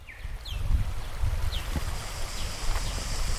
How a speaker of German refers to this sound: Ah, der Sound der Natur. Vögel zwitschern, Grillen zirpen, Blätter rascheln, ein Fluss rauscht in der Ferne.